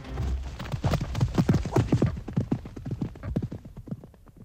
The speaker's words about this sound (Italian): E il cavaliere bianco, disdegnoso, lo guarda appena e poi galoppa via.